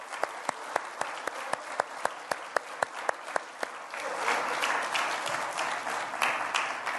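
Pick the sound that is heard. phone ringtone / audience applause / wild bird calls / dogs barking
audience applause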